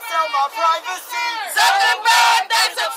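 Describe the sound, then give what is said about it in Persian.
A protest crowd chants loudly in unison outside the US Congress building, demanding reform of Facebook, many voices rising and falling in rhythmic bursts of shouted phrases with brief pauses between them. “در خارج از عمارت کنگرس تقاضا برای اصلاح فیسبوک جریان داشت.”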